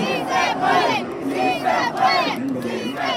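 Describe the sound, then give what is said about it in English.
A large football crowd watching Mexico play Saudi Arabia on a big screen in downtown Mexico City roars and chants in loud, rhythmic surges, many voices rising and falling together about every second with no pause and no single voice standing out. “The Tri came alive, they attacked aggressively, and the crowd watching on a big screen in downtown Mexico City started to believe.”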